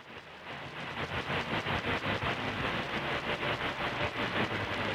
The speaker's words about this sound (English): All right, well, there's a little bit of a signal there. It's very weak, but we can pull something out of it. We can tell there's music.